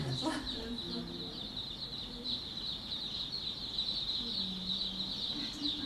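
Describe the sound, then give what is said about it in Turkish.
A dense, continuous chorus of thousands of chicks, hatched in Georgia (the country) from eggs thrown away as spoiled, peeping high-pitched and overlapping without pause, with faint low voices murmuring underneath. “Gürcistan'da bozuk oldu gerekçesiyle çöpe atılan yumurtalardan binlerce civciv çıktı.”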